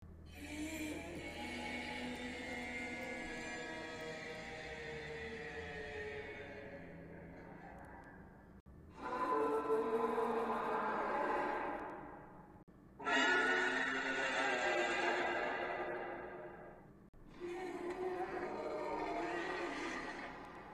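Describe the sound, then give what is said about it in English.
The monster from the film Cloverfield roars: a long, shrill, wailing cry that slowly fades, then three shorter loud screeching roars in quick succession, harsh and tonal, with no talking over them. “Cloverfield, including a recording of its roar, foreign news clips about a monster attack, and sonar images.”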